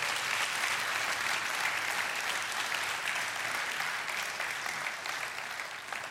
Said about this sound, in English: If you prayed that, go ahead and clap. Go ahead and clap.